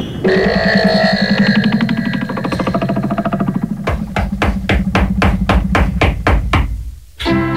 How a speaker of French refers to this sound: On frappe à la porte là! Quelqu'un peut aller ouvrir là, je suis dans le jacuzzi!